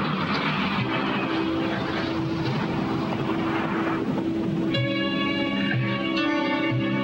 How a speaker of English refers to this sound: Roland looks up and sees three Allied planes overhead. Look out! As the planes strafe the jeep, Roland jumps out and dives to the ground. The jeep explodes in an inferno.